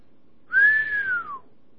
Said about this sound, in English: I think that's the third whistle of the night.